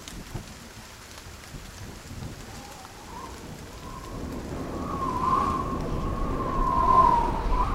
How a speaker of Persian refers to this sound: ابر میان آسمان بود، باد هوهو آمد و ابر را قلقلک داد. ابر خندید، باران چک چک بارید.